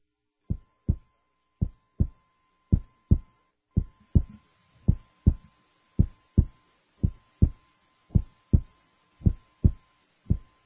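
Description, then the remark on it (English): A steady human heartbeat thumps in a regular lub-dub rhythm, deep, roughly a hundred beats a minute, over a faint steady hum and light hiss, with no voices. “That's the sound, you're listening, of your heart beating.”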